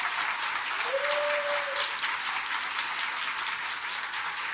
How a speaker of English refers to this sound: So everyone needs to really, really give her one more round of applause, because it's been absolutely amazing.